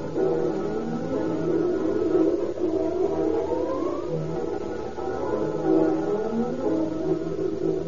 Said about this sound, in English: Fire engines, chemical cars, and long, sleek battle wagons fly screaming through the deserted streets.